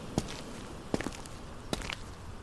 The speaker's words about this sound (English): I walk across the great ballroom, feeling dust and grit crunch and scrape beneath my feet.